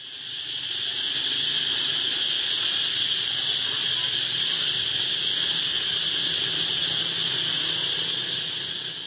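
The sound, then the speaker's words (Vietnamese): A dense, steady chorus of cicadas in summer drones on at a high, shrill pitch, loud and unbroken for the whole stretch, with a faint low rumble beneath and no voices. “À, tiếng ve.”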